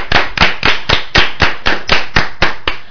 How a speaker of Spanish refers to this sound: Nadal es el jefe de los Roland Garros. Es el número uno. Un aplauso para él, para Nadal.